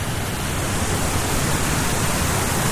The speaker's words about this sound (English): Oh, those are really beautiful waterfalls. Oh, nice.